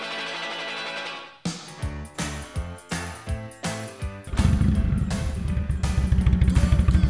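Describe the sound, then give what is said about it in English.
A motorcycle engine cranks in a series of rhythmic bursts, then catches and roars into a loud, steady rumble as the motorcycle is driven out of a studio through a large window, with no one talking. “Fires up the motorcycle one last time.”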